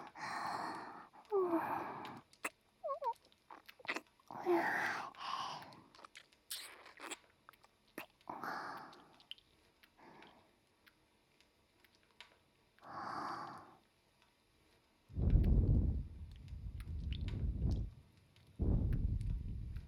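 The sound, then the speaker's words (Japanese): Wet mouth noises of breath and saliva with smacking clicks and moist breathy puffs, repeating irregularly, then several louder, heavy exhales near the end; no talking. “私の吐息と唾液、全身で感じなさい。”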